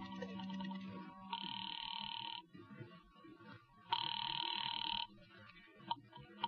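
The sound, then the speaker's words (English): A telephone rings twice through an earpiece after a number is dialed from a phone booth, each burst about a second long with a pause between, sounding thin over faint line noise. “I took a chance that the old dame on the phone might have been brushing me off the other night, and I went into a booth and dialed a number.”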